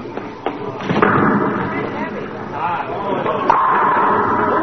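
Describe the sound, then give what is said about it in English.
A bowling ball strikes the pins with a sharp, loud crash, knocking them all down, followed by a few seconds of rattling, tumbling clatter as the pins scatter and settle. Faint voices murmur underneath. “Oh, I knocked them all down.”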